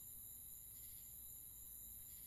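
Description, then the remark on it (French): A soft, continuous chorus of crickets chirping far off on a summer night in the countryside, a steady high-pitched trill with no pauses and no voices, quiet and distant against the still night air. “Vous entendez au loin la chanson des grillons qui se joignent au concert des grenouilles.”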